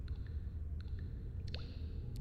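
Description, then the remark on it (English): A few small drops of liquid plink into water, soft and scattered, one giving a quick rising bloop, set against a low steady background rumble. “Just add a few drops.”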